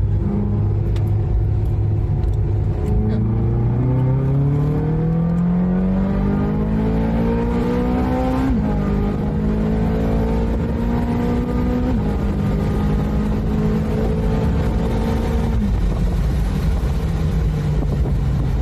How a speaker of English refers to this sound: Driving with the roof off, obviously. If we were in the south of France, it wouldn't be anywhere amiss. Okay, so here we go. I'm going to throttle it out of a little hairpin.